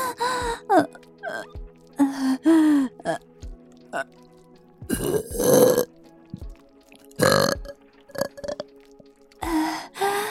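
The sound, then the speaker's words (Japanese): A string of loud burps, some long and drawn-out, others short, repeating irregularly. Brief vocal sounds and gasps fall between them. “ゲップ好き。”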